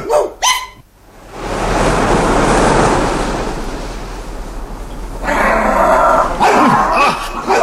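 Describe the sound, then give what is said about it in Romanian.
A pack of hounds and curs barks while following a quarry's scent trail: a few sharp yelps at first, then a dense, continuous clamor of overlapping barks swelling louder toward the end. “Și toți dunăii, toți dunăii, ogarii și cotei, vor adulmeca urmele norogului și de lor prinde cu ghearele și cu veninoșii și ascuțiții lor colți, îl vor sfâșia.”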